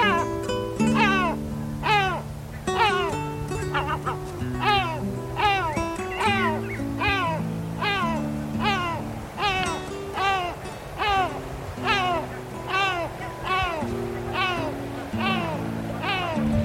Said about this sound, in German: Das war die Mantelmöwe.